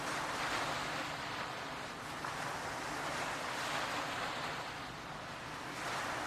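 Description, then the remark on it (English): Gentle ocean waves lap steadily against a sandy shore in a continuous, softly rolling wash, with faint swells rising and falling and a light breeze in the background. No voices. “These peaceful waves gently lapping the shore, washing gently into the sand.”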